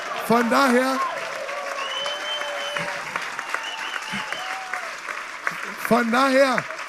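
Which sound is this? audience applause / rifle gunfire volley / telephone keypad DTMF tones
audience applause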